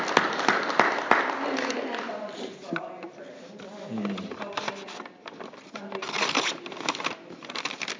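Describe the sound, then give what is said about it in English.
A church audience claps steadily for several seconds during prayer time, a dense crackle of many hands at moderate loudness, with voices murmuring and calling out underneath. “You can clap.”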